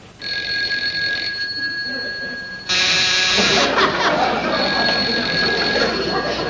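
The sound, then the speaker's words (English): A telephone rings with a steady electric tone, then a louder doorbell joins partway through, and both ring together continuously until the end. No one speaks. “You get the door and I'll answer the phone.”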